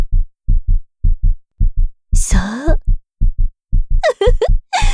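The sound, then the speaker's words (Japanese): A loud, close heartbeat thumps steadily in lub-dub pairs throughout, with a woman's voice briefly speaking over it twice. “ドキドキって鼓動がカメラ越しにお姉さんにも聞こえてきそう。”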